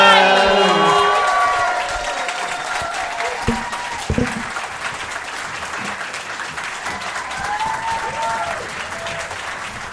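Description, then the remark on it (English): A crowd gives a big round of applause for the Hen and Chicken, clapping steadily for the full ten seconds, a dense wash of clapping with scattered whoops and cheers, loudest at the start and easing slightly as it goes on. “Can we have a big round of applause for the Hen and Chicken?”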